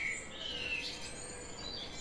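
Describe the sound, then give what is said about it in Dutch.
Small birds chirp and twitter softly, a thin, high, continuous warbling over a steady background hush, with no voices present. “Je hoort de vogeltjes fluiten.”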